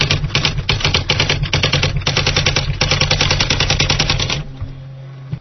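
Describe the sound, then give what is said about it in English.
An electronic typewriter sound, offered as one of five keyboard sound scheme choices in talking software, clatters away in a rapid, steady stream of sharp mechanical strikes over a low motor hum, stopping abruptly near the end as the hum lingers briefly. “Electronic typewriter.”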